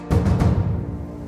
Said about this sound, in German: Die See ist rau. Regenstürme peitschen über die aufgewühlten Wellen hinweg. Der Pazifik zeigt sich von seiner schlecht gelaunten Seite.